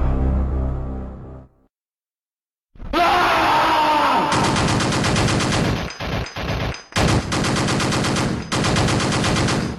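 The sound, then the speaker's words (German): Loud, rapid video game gunfire from a blonde space marine character's gun rattles in long automatic bursts, broken by a few brief stops, after a low rumble, a short silence and a strained groaning cry. “dieser Space Marine, dieser blonde Typ drauf war, der aus seiner Knarre schoss und dann irgendwann anfing zu schreien”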